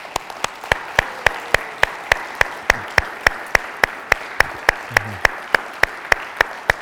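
An audience applauds military men and women standing up in the crowd: sharp claps falling in an even, quick rhythm over a continuous wash of crowd clapping, with a faint voice briefly underneath.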